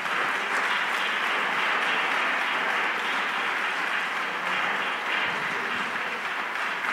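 A church audience claps their hands to thank God during a sermon, in sustained, dense applause, a steady crackling wash of many overlapping claps that stays loud and even throughout with no clear pauses.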